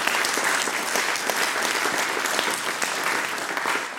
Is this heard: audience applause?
yes